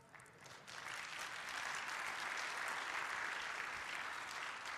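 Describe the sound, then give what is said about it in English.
An audience bursts into applause after the announcement that the speaker's wife gave birth to another daughter on 6 October 2023, a dense, steady wash of many hands clapping that swells in the first second and holds at a full, even level throughout, with no voices standing out. “But don't clap your hands yet, because you haven't heard her name.”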